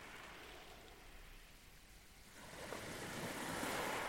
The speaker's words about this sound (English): These waves were recorded at Deal in the early morning of August the 20th, 2021.